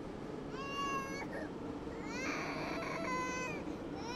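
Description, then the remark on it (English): A toddler cries in two long, wailing bursts with a brief pause between them on a subway train, while a mother wipes snot from the toddler's nose, set against a steady murmur of background noise. “Across the aisle, a mom wipes snot from her toddler's nose. Watching someone cry in public can be uncomfortable, but it's the perfect invitation to share your own pain.”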